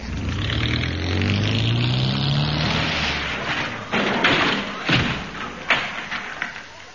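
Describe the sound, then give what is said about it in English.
A car engine starts, revs up and accelerates for a few seconds, then several heavy crashing thuds as the car slams into an unopened garage door, followed by a few lighter clattering knocks. “We should have opened the garage door, shouldn't we?”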